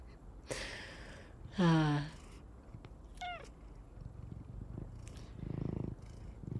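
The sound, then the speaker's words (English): A house cat gives a few short meows and a quick chirp, with a low, steady purr rumbling softly underneath, strongest toward the end. “Jerry has joined us. Jerry is not my kitty, but he lives in the house here.”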